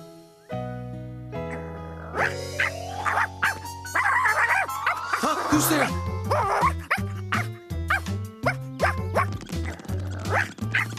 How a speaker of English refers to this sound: Woof, woof.